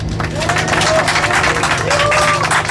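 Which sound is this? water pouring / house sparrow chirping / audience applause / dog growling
audience applause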